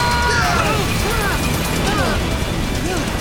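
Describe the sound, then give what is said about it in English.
A burning plane crashes into a hangar, a loud, steady roar of rumbling and grinding noise lasting several seconds, with voices shouting over the din. “It's a plane on fire! Look out!”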